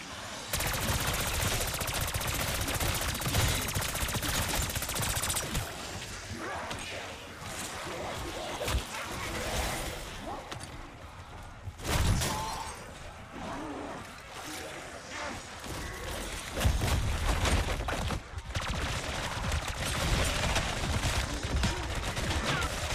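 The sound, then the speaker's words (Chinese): Rapid gunfire bursts crackle almost continuously, dense and fairly loud, with a couple of sharper, heavier blasts standing out partway through as the bullets explode. “子彈嗰下會有爆炸”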